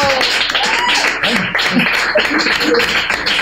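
Sustained applause from an audience, a dense wash of clapping that stays loud and steady throughout, with scattered voices and cheers mixed in.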